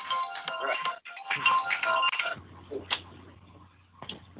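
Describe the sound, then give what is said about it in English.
A second phone rings with a bright, melodic electronic ringtone for about two seconds, briefly pausing once, then cuts off, leaving quiet with a low steady hum and faint clicks. “Sorry about that. My other phone was going on.”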